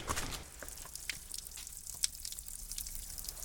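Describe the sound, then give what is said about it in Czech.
Spring water babbles and trickles steadily, with a constant bright splashing texture and scattered little drips and plinks. No one speaks. “Zurčí krásně.”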